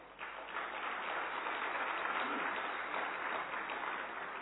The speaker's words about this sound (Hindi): इसलिए अपने लिए ताली बजाइए।